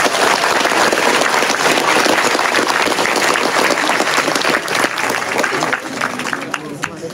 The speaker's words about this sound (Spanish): Demos un fuerte aplauso, compañeros y compañeras.